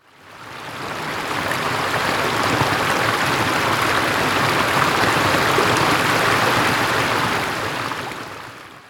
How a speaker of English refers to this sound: Hercules opens the two doors of the stables. The water runs through the stables. It enters one door of the stables and goes out of the other door. It takes all the dirt from the stables.